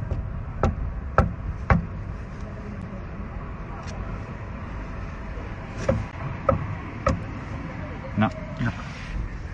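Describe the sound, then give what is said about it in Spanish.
Someone deliberately knocks three times: three sharp knocks land in quick, even succession near the start, followed later by a few more scattered taps, all over a steady low rumble of background city noise. “Tú tocas tres golpes, a ver.”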